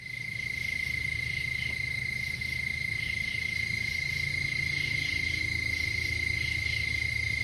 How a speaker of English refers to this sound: Now, when the entire brood emerges, backyards can look like inundating in waves, and the bug chorus, they say, is lawnmower loud. That's a lot.